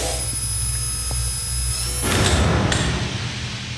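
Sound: door being closed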